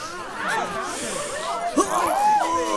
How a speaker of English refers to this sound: Everybody sniff!